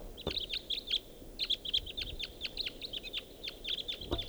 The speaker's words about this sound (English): Looks like there are more type twos. Two more coming in. Three more. Now there's a greater number of birds all around here.